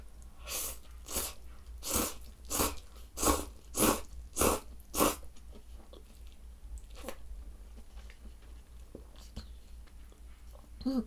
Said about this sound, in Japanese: 結構咀嚼音とか聞くの好きなんだけど、ズルズルする音とかくちゃくちゃ食べる音とか好きなんだけど、嫌いな人がいたらごめんなさい。